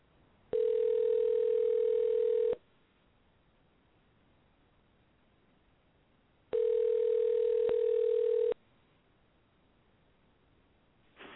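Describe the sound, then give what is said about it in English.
A telephone line rings out twice as a call is placed to Dixon Fruit Market, each ring a steady, buzzy tone lasting about two seconds with a long silent pause between, ending with a faint click. “And I'm going to dial now.”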